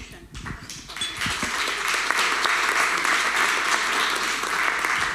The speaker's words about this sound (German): Ja, brauche ich gar nicht mehr, um den Applaus zu bitten.